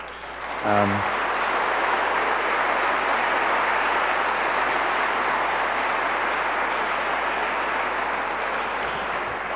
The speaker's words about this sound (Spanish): Muchas gracias, Carlos Fuentes. Un aplauso, por favor.